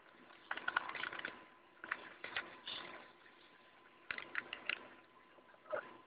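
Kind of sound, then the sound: household object, typing on a keyboard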